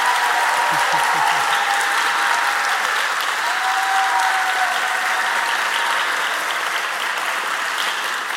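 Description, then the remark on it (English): Steady, dense applause from a church audience thanking two people who organized mission trips fills the whole stretch, a loud continuous wash of many hands clapping with no breaks, holding at an even level until it eases slightly at the end. “Finally, I know I keep cutting people off while they're clapping, but it's 11:32 and I'm hungry.”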